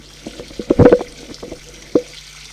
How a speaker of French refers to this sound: Laisse la vaisselle